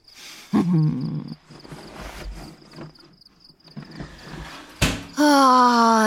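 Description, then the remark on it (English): A short, sharp sneeze bursts out over the steady hiss of a running shower, with earlier splashing and a voice starting up right after. “Bless you and your big enough shower for two.”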